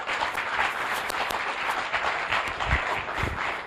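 An audience applauds steadily, a dense, continuous wash of many hands clapping at once, holding a fairly even loudness for several seconds with no voices heard.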